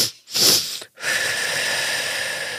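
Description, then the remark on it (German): Two short, sharp breaths drawn in through the nose, followed after a brief pause by a long, steady, airy exhale that continues evenly to the end, clearly audible with no talking; a breathing exercise of quick inhalations and slowed exhalation to bring the pulse down. “Also wir machen 2 schnelle Atemzüge, Einatmzüge und atmen ganz langsam zusammen aus.”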